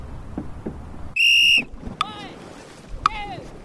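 Outdoors on the water aboard a dragon boat, a long canoe-like boat holding 20 paddlers, a drummer and a steersperson. A sharp sustained whistle blast rings out, then two brief chirping whistle calls over a low rumble of wind and water, with faint, indistinct voices.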